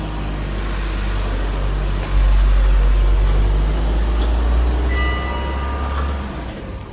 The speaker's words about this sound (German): Jetzt kommt gerade ein Auto.